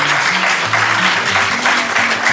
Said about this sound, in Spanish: Vamos a hacer un fuerte aplauso